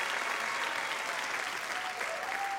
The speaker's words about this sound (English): Now let's applaud for their families who put them, helped them through the whole process. Way to go, families.